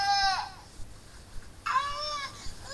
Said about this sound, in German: Mit einem schreienden Baby kann man nicht gut schlafen.